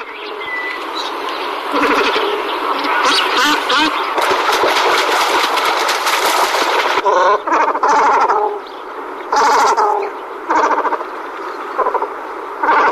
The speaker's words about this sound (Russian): Давайте для начала послушаем, как звучит в принципе баклан. Вот что есть такое баклан в звуке?